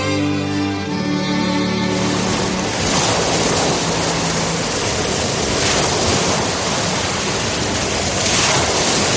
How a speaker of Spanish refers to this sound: La verdad que hay pocas cosas más relajantes, ¿verdad?, que el sonido del mar, de ese vaivén de las olas, que si pudieran hablar, seguro que se quejarían de la gran cantidad de basura que se acumula en nuestros mares y océanos.